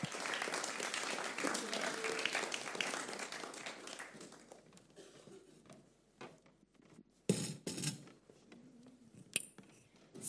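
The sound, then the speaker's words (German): An ICF church crowd breaks into dense, sustained applause for three people from the church, fading after a few seconds into scattered claps, with a few louder bursts and faint voices toward the end. “Und dazu freut es mich, dass ich drei wunderbare Leute vom ICF heute bei mir habe, und gebt ihnen einen riesen Applaus, dass sie uns erzählen werden, was sie mit dem Heiligen Geist erleben.”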